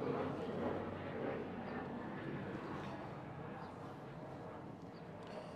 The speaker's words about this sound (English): There's an airplane going by right now.